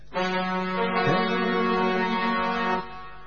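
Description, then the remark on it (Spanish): The horn of a boat crossing the bay sounds one long, steady, low blast lasting nearly three seconds, loud and rich in harmonics, with a slight wobble in pitch near the start before cutting off. “Ese barco, bueno, que cruza la bahía.”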